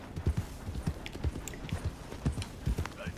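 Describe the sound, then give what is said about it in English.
Steady clip-clop of a mare's hooves as she is ridden into town, striking the ground in a quick, even rhythm, moderately loud, with no one talking. “Maybe I should learn how to ride a horse.”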